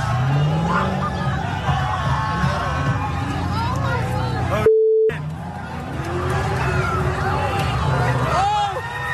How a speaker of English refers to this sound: The officer has his lights flashing. His siren is going intermittently, and he's honking his horn to try to get the mob to move out of the way.